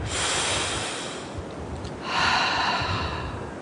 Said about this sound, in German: Tief durchatmen.